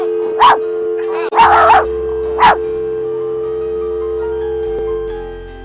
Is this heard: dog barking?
yes